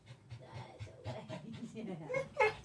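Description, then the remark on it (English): Dogs pant rapidly in short, rhythmic bursts, with a few high whimpers breaking through near the end; the excited breathing is moderately loud and continuous, and no one speaks. “We got some dogs here, some new dogs.”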